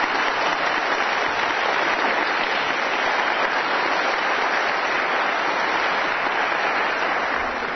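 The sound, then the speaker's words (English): A crowd applauds steadily, a dense wash of clapping hands that holds at an even, fairly loud level for several seconds without pause or break. “Okay, everybody who applauded needs to call their councilman tomorrow and say, I want you to raise property taxes.”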